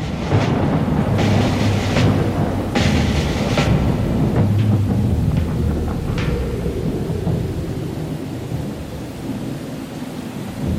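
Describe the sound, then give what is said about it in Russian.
Heavy downpour roars steadily throughout, a dense wash of loud rain noise layered with deep rumbling thunder, with a few sharper bursts of spatter in the first several seconds. “Ливень хлынул на землю.”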